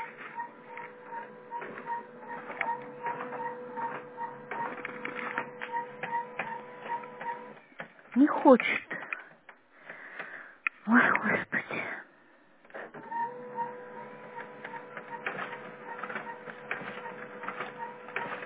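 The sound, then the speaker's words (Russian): A printer whirs and clicks as it tries to pull in a freshly loaded full stack of paper, its motor droning steadily, then pausing for rustling handling noises before the mechanical feed sound resumes; a voice briefly speaks. “Загрузила бумагу, теперь он не хочет.”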